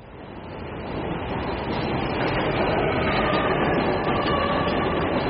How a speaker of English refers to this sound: The subway trains run overhead.